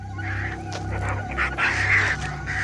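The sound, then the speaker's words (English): Harsh, raspy squawks from vultures chewing on meat from a severed hand in the jungle come in several overlapping bursts, fairly loud, over a steady low rumbling background. “Vultures chew on meat from Sven's severed hand.”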